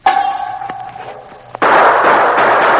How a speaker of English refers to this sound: Three guns fired at the sound, and the sergeant fired at the gun flash.